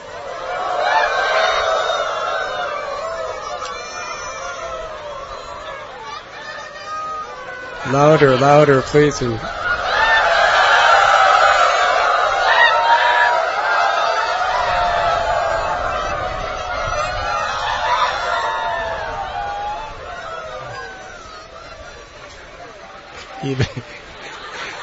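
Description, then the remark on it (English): A crowd of men and women imitates rooster crowing together, a loud, overlapping chorus of wavering cries that swells and fades, with one sharp call standing out near the middle and brief spoken urging. “Everyone crowed like rooster.”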